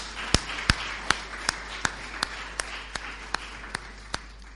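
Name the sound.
audience applause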